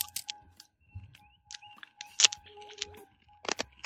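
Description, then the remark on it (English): Crunchy chewing of a sour cream and onion snack: sharp, irregular crackling bites scattered across a few seconds, with quiet pauses between, and no talking. “Yeah, it's crunchy. The flavor's all right, but I feel like it's going to clean me out.”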